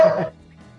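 A single short dog bark rings out at the start, clear, then fades into a quiet, low background hum.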